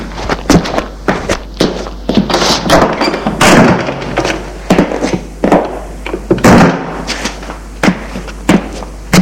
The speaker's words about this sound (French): Au fond de l'allée, il ouvre une porte en bois.